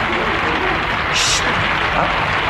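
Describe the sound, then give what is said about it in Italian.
Steady, dense applause from a large audience at a song contest fills the whole stretch, a continuous wash of clapping that stays loud and even from start to finish. “Applauso.”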